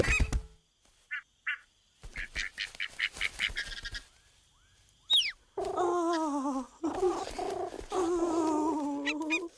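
goose honking

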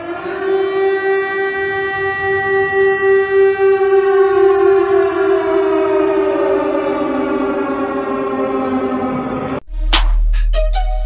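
siren wailing

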